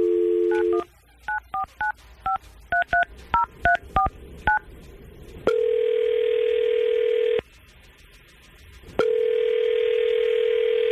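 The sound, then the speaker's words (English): A brief dial tone, then a quick run of about a dozen keypad dialing beeps, followed by the steady ringback tone of an outgoing call placed by radio show hosts: two long rings separated by a silent pause. “we're going to try to call Kate right now, see if we can get her on the phone and get some answers”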